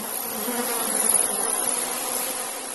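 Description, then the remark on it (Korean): A dense swarm of countless flies, filling Pharaoh's palace, his servants' houses and all the land of Egypt, buzzes steadily, a continuous droning hum that swells slightly in the middle, with no voices. “무수한 파리가 바로의 궁과 그의 신하의 집과 애굽 온 땅에 이르니 파리로 말미암아 그 땅이 황폐하였더라.”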